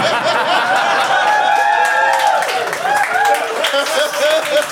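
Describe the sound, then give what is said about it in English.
A live audience cheers and applauds steadily for several seconds, a dense, loud wash of overlapping voices, whoops and clapping with no single speaker standing out. “That was quite an anti-centric cheer.”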